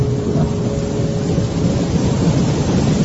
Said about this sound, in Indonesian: Cuaca saat itu mendung, hampir mau hujan. Gemuruh petir sudah mulai terdengar.